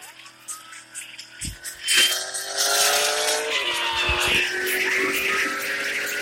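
A vehicle siren switches on while driving, a steady, loud electronic tone that shifts pitch slightly over a rumbling engine, continuous after a brief clunk.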